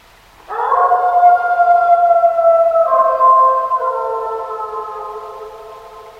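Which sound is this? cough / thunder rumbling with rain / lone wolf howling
lone wolf howling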